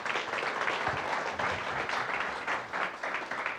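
An audience applauds steadily, a dense, even wash of many hands clapping at a fairly loud, constant level with no voices standing out.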